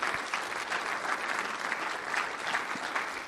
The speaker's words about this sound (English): Let's give the Lord a great big praise clap. Hallelujah.